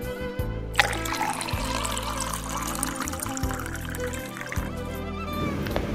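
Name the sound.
water being poured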